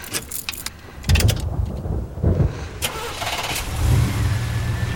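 A man starts a pickup truck: the engine cranks with a few rough bursts, catches, and settles into a steady low idle rumble. A faint jingle of keys comes at the start.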